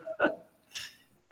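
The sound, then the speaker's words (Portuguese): A few short, sharp barks from dogs somewhere in the background, spaced apart, with a fainter yelp near the end; quiet. “Prende os cachorros, não é modelo.”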